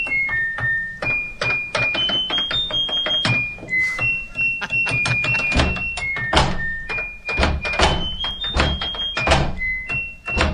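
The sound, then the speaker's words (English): Bright electronic beeps from an appliance's buttons at varying pitches play a song's melody, backed by a steady beat made by opening and closing the appliance's door with thuds and clunks, fairly loud throughout. “They were using the buttons on it that would go ding, ding, ding as the kind of the melody, and they were opening, closing the door to make the beat.”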